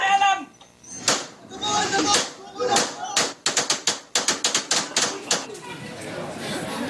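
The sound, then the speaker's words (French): In a police audio recording, a man's raised voice shouting in French that he surrenders, and commotion, give way to a rapid volley of about ten sharp gunshots, cracking in quick, uneven succession before fading into muffled background noise. “On y entend un homme hurler « Je me rends » avant d'être abattu par une dizaine de balles.”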